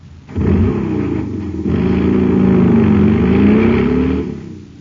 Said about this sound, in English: Man, that cycle's roaring like a rocket now because it's supercharged with super fuel.